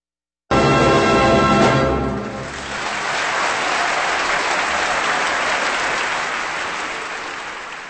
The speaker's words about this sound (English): And that applause is for the Berlin Philharmonic and conductor Herbert von Karajan with music known to induce in the listener a kind of madness. We listen to The Delirium Waltz from Josef Strauss here on Kansas Public Radio.